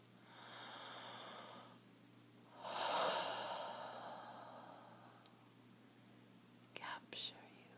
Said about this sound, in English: Just drift into my voice. Let it surround you. Let my breathing